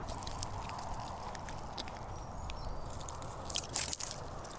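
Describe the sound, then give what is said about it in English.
A hole being bored into a tree by hand, opened up to fit a spile: irregular dry crunching and scraping bursts that grow sharper and louder near the end, over a steady low rumble. “I'm just going to open that hole up just a little bit more.”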